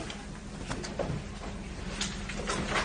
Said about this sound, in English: He seemed pretty calm until that moment where he just knocks the microphone off of the desk.